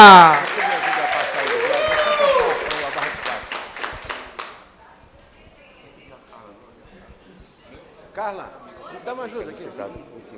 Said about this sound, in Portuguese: Palmas, minha gente, para a turma da UFRJ!